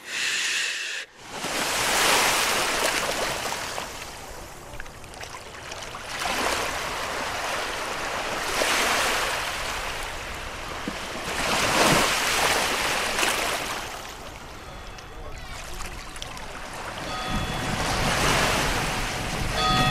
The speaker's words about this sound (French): Le clapotis de l'eau, très joli ce son. Et ça endort. Oui, parce que le son de l'eau calme beaucoup. Ça berce et ça endort, ça calme.